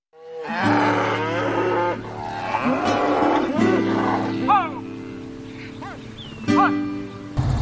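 Several cows grazing slowly at the McDougall ranch in Madera County, California, moo loudly, long low bellows overlapping one another almost continuously, with a few shorter calls breaking in near the end.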